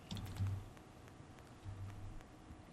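Faint, irregular clicking of someone typing on a computer keyboard, quick keystrokes scattered over a low background hum, with no one talking.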